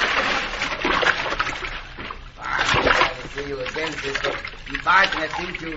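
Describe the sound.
Water churns and splashes loudly, as if someone is thrashing and going under, while a man's voice calls out over the commotion.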